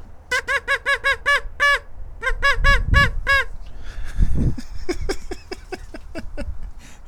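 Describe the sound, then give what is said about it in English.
A duck call quacks loudly on a sunny day in two quick runs of nasal, evenly spaced honks. A low rumble runs underneath, and sharper, clicky quacking pulses follow. “I'm quacking. I'm a quacky duck dude.”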